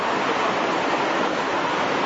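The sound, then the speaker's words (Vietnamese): A steady, dense hiss of heavy rain, constant and fairly loud throughout, with no voices and no breaks in the wash of noise. “Rồi, con chịu khó, trời mưa cho nên chịu khó nói to lên nhá.”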